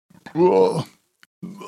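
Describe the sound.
A single loud, throaty burp after drinking a carbonated drink, lasting about half a second, followed by a brief pause before a voice starts talking.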